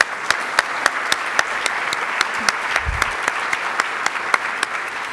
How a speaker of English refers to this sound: So let's give a big round of applause for Hod.